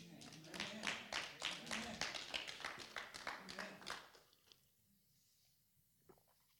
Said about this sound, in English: Clap it up if you're enjoying this so far.